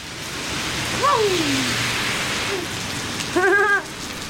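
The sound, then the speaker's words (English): Heavy rain pours down steadily outside the courthouse in Paris, Texas, a dense continuous hiss filling the scene, with a couple of brief higher-pitched squeaky sounds rising over the downpour. “We walk out of the Paris, Texas courthouse into the pouring rain.”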